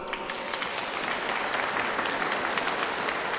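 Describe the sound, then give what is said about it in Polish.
Audience applause for the Verbum Domini schola of the local parish community, a steady dense patter of many hands clapping at an even loudness with no voices standing out. “Brawa dla scholi.”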